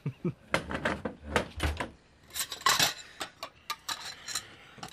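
Irregular clatter of breakfast dishes and cutlery being cleared up: quick clinks and scrapes of plates and silverware knocking together, with no one speaking.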